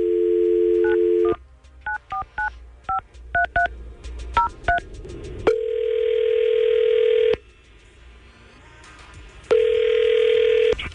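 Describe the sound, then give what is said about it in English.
A phone dial tone gives way to a quick run of keypad dialing beeps, then two long ringback tones with a silent gap between, loud with no voices, as an outgoing phone call is placed. “we're going to try to call Allison and see if we can get her on the phone”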